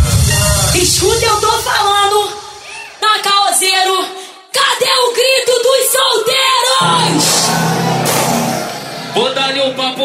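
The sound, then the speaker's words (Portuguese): A crowd of single women shrieks and cheers loudly in high-pitched bursts, the screams overlapping and swelling for several seconds with a steady low hum underneath. “Agora eu só quero escutar o gritinho das solteiras.”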